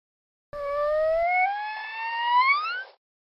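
dolphin signature whistle

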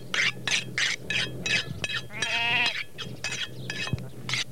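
sheep bleating

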